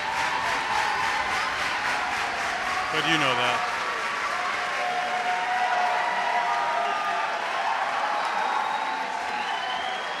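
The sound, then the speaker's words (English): A lively concert crowd at the Judson Memorial Church in New York City, on the fifth of five nights, cheers and applauds at the end of a band's set in a steady, dense roar, with a brief rising whoop early on and a short spoken phrase over the noise. “This is the most lively of the three crowds I've heard.”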